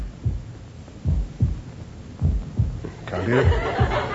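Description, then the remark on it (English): Muffled heartbeat thumps heard through a stethoscope, arriving in steady paired beats, low, with a scratchy rustling noise rising behind the last few beats. “It's your heartbeats are vibrating against the casing.”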